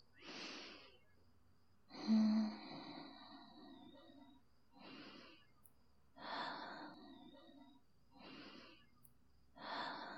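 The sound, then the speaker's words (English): Slow, steady breathing of a mother as her baby nurses and falls asleep, with about half a dozen airy inhales and exhales repeating every couple of seconds in a calm rhythm, some breaths slightly raspy. “Yeah, listen to mommy's breathing.”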